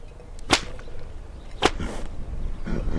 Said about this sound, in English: The csíkos cracks his 8-foot hand-woven whip in the air, which scares me more than Csomló. According to legend, the csíkos used the sound of the whips to acclimate horses to gunfire.